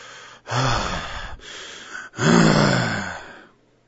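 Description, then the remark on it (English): A voice imitates heavy breathing with two loud, breathy gasps, one short and one longer, with no talking. “It comes from the root of heavy breathing.”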